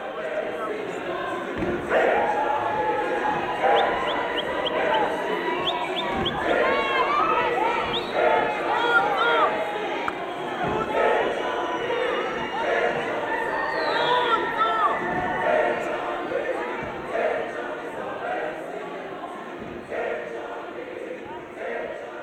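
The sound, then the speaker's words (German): A restless audience at a choir performance chatters steadily, many overlapping voices forming a dense, continuous murmur with occasional louder shouts and scattered thumps, no single voice standing out. “Der …-Sänger … beklagt sich über die ständige Unruhe im Publikum.”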